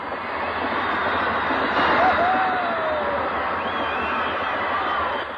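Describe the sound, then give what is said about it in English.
A dense, steady roar of a crowd of 14,000 teenagers screaming as Elvis Presley performs at Maple Leaf Gardens, with individual high-pitched shrieks sliding up and down above the wall of noise, loud and unbroken for the whole stretch. “Once Elvis came on stage, all you could hear were the screams.”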